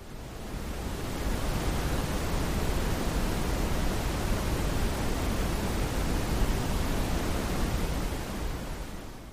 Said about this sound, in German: Also, das hier ist erstmal das braune Rauschen für Hunde.